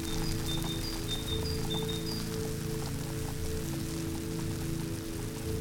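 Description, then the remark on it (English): Steady, continuous VHF radio static hisses without a break, the rain-like noise that heavy, nasty rainy weather puts on the signal, with a low hum underneath and faint whistling tones early on. “That's the noise you get with the weather. It's just a shh, like so, and it's difficult to hear.”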